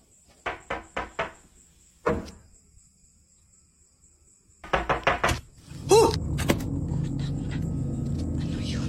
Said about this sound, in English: Now, after two more nights of this strange late night visitor knocking at her front door, she decides to open the door and sees this.